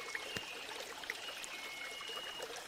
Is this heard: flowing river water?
yes